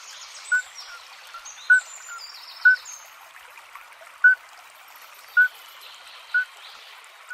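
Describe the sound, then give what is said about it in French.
A male midwife toad, a small amphibian barely 5 cm long, gives short, pure, bell-like peeps about once a second as a mating call in competition with other males nearby, while birds chirp faintly in the background over a soft trickle of water. “Si vous entendez ce petit chant lors d'une douce soirée printanière autour de chez vous, cela ne vient pas d'un quelconque oiseau ou encore moins d'un insecte.”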